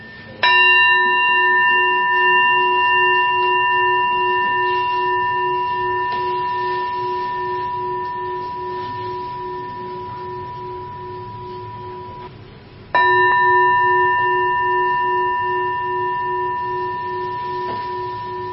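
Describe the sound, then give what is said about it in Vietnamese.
A bell is struck twice during a guided meditation, about twelve seconds apart. Each strike rings out as a loud, bright, sustained tone with clear layered overtones that fade slowly. No one speaks. “Khi nghe có thể tiếng chuông để quý vị có thể đi về được và tiếp xúc được với ngôi nhà đồng nghiệp của chúng ta.”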